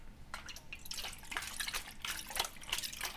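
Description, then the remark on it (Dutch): Liquid poured from a bottle splashes and trickles in a steady, bubbling stream with irregular gurgling surges, moderately loud and bright, with no one talking. “Maar ik bedoel dus... vloeibaar. In een geluid. Gevangen.”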